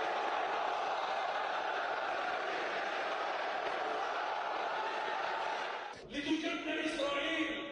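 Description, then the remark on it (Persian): A large crowd shouts together inside the grand mosque of Doha, Qatar, at the funeral of Ismail Haniyeh, condemning his assassination: a dense, loud, continuous roar of many voices lasting about six seconds before it cuts abruptly to a choppier, thinner stretch of sound. “مسجدی مملو از مقامات کشورهای منطقه و مردمی که در محکومیت ترور شهید هنیه فریاد زدند.”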